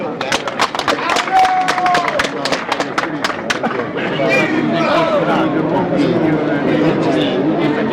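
An audience applauds a contestant about to sing on the Visentini law, a dense patter of many hands clapping with a few sharper claps at the start, then settling into a steady wash of clapping and crowd murmur.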